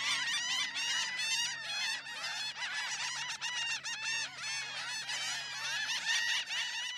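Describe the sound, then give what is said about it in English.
A noisy flock of laughing gulls calls continuously to each other on a beach on the Gulf Coast of the southern U.S., harsh nasal cries overlapping in rapid bursts, loud, with a low steady hum beneath. “The laughing gulls are always present on the beach where you hear them calling to each other.”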